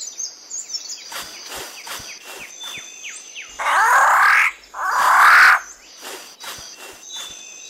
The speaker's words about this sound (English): A rifle bird of paradise.